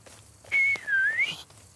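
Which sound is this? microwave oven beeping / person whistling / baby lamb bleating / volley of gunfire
person whistling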